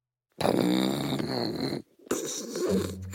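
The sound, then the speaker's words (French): A wolf snoring in two loud, rumbling breaths, a long rasping inhale followed by a brief pause and another throaty snore, with no talking. “Et pendant que le loup ronfle, que les araignées s'amusent au saut à l'élastique et que Monstre Rouge dévore Tintin au Tibet, Thomas, Monstre Vert et Ours jouent une partie de Uno endiablé qui s'achève quand Ours entonne un « Hourra de victoire ».”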